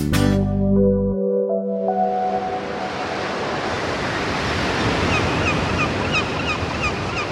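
A steady roar of ocean surf breaking on the shore washes over everything after a brief musical jingle fades out, with faint bird calls chirping now and then above the waves.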